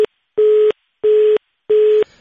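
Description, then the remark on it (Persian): A telephone disconnect tone after a radio call with a Radio Azadi reporter in Farah province was cut off: a loud, steady electronic beep repeating in short, evenly spaced pulses with equal silences between them, heard on its own with no voices. “متاسفانه تماس تلفنی برقرار شده ایم البته با احمد شاه فطرت خبرنگار رادیو آزادی در ولایت فرا قطع شد.”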